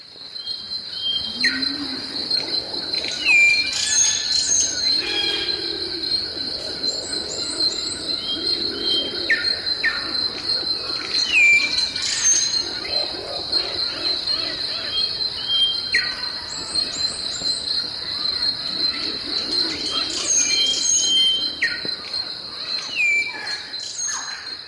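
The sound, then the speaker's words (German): Birds screech and call repeatedly in irregular bursts over a constant high insect drone, with a faint low animal lowing now and then in the background; no one speaks. “Das hier war ja jetzt eher so Vogelgeschrei.”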